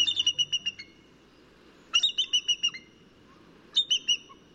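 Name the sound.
bald eagle call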